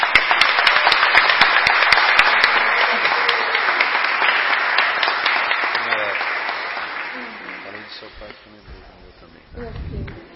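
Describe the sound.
A crowd at a public ceremony bursts into sustained applause, loud and dense at first, then gradually thinning and fading over several seconds, with a voice starting to talk near the end.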